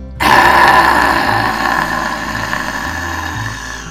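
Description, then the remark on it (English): A single long, forceful roaring exhale with the tongue out and mouth open after a big breath in, a raspy, breathy voiced "haaa" that starts abruptly, stays loud and slowly tapers off over about four seconds. “Take a big breath in. Stick out your tongue as you open your mouth.”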